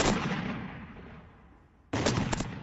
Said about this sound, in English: boom! Immediately, I jumped out and ducked my head. I'm like, what the hell is that? It was an explosion. Actually, two of them back to back. A flash of light, then the sound. And the sound in those videos don't even really capture it.